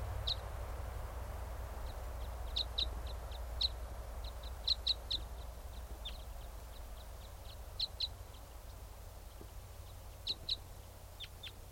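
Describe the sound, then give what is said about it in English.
Two wild type 5 birds call back and forth in short, sharp, high-pitched chips, some single and some in quick clusters of two or three, scattered irregularly over a steady low rumble. No one speaks. “That was a type 5 song.”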